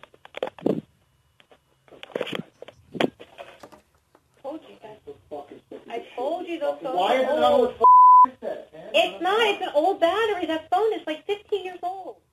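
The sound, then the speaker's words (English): An old phone, about 15 years old with an old battery, sounds its low-battery warning as one short, steady electronic beep, clear, cutting briefly through people talking over a muffled, choppy line. “It's an old battery. That phone is like 15 years old.”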